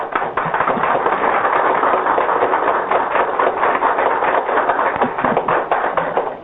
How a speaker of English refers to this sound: That applause, by the way, was made by a Washington, D.C. coffeehouse audience that had started out by booing and hissing.